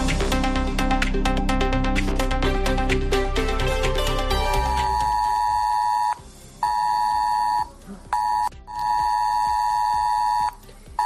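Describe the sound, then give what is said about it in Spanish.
A loud ES-Alert emergency alert tone on a mobile phone, sent as part of an emergency drill: a harsh, pulsing, multi-tone blare that settles into a steady piercing beep, broken by a few short gaps. No one speaks. “El ejercicio incluirá el envío de un aviso a los móviles, el Esalert, en el que aparecerá claramente la palabra simulacro para evitar confusiones.”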